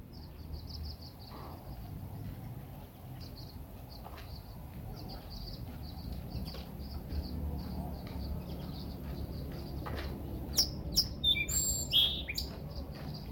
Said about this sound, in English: Did you share that song, Sparrow? Let's see if it will sing for us again.